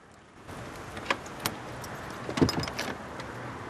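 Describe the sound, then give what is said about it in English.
Keys jingle, followed by a few sharp metallic clicks as a lock is turned on a house's large wooden door by someone locking it before leaving, all over a steady low background hum. “She rests the folder on top of the box, and locks the house's large wooden door before leaving.”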